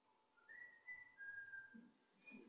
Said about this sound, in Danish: Der er nogen, der fløjter. Er det her eller nede på gaden?